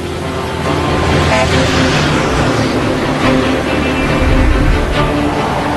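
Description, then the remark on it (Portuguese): A heavy road train, a truck convoy with four trailers mostly loaded with iron ore and riding on 128 tyres, roars past: a loud, steady rumble of big engines and tyres that swells slightly and holds for several seconds, with no one talking. “São os trens de estrada, comboios de caminhão com quatro caçambas, na maioria carregadas de minério de ferro.”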